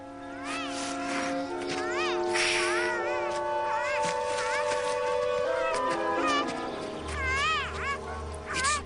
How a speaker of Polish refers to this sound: Dziecko płacze z zimna. Już dobrze, maleńka, nie płacz.